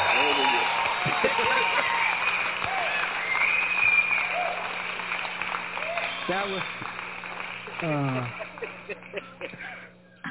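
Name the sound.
applause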